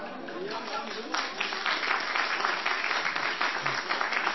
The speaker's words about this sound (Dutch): Dus, beste koks, het applaus is denk ik helder. Dank u wel voor het koken. Het heeft gesmaakt.